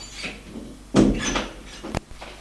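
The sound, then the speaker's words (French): A woman shuts a door as it swings closed: a low rumbling thud followed about a second later by a sharp, crisp latch click, with otherwise quiet surroundings. “Elle ferme la porte.”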